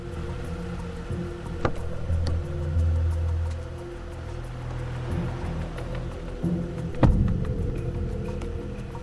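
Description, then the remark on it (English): A car engine rumbles low and steady as the car sweeps around a corner and pulls up in front of a townhouse, with a couple of brief knocks along the way and a firmer thump near the end as it settles. “Lisa's car sweeps around the corner and pulls up in front of her graceful townhouse.”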